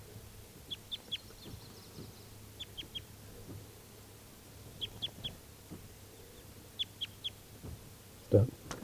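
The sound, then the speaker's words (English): A male bird, numbered 391 and still free during net bird-catching, calls from nearby trees in quick bursts of three short, high chirps, repeated four times over a low steady hum, with a single dull thump near the end. “391 is still free, and he's calling in the trees nearby.”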